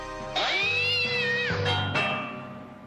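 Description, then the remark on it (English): A cat meows, one long drawn-out cry that rises and bends in pitch, followed by a couple of shorter mews trailing off, with no one talking. “Hello, kitty.”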